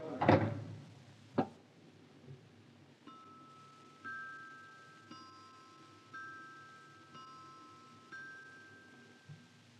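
A door is shut with a heavy thud, followed a moment later by a sharp latch click, then a slow, even series of bright ringing chime tones.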